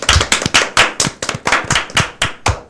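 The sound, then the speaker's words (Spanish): Hands clap in a steady, brisk rhythm, roughly a dozen sharp, loud claps over a few seconds, with no voices. “¡Ay, un aplauso se merece!”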